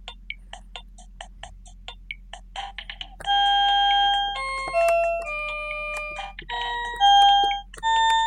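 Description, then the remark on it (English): A few seconds of quick, soft ticking blips give way to an organ playing the theme from the film Star Trek: The Motion Picture, with loud sustained notes stepping up and down through the melody without any talking. “I'm going to use organ.”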